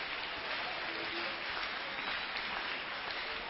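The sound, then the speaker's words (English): A church crowd claps their hands for Jesus during a sermon, a dense, even wash of many hands with no pauses, some faint voices mixed in beneath the clapping. “Can we clap our hands for Jesus?”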